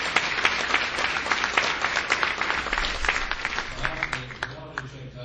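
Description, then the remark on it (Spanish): An audience applauds steadily, a dense wash of many hands clapping at once, loud at first and gradually thinning out toward the end. “Aplausos.”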